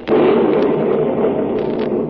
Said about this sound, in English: Didn't you ever hear thunder before?